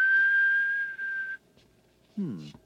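A person whistles one long, steady, high note for over a second to make a key ring that beeps when whistled for respond, then it stops; after a short quiet pause, a voice briefly begins to speak.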